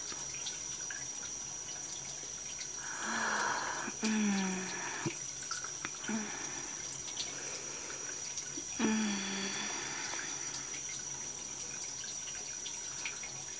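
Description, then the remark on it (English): Water runs steadily from a shower in a continuous soft hiss, broken by a few louder splashing surges partway through and again near the end; no one speaks. “Let the water just run all over our bodies.”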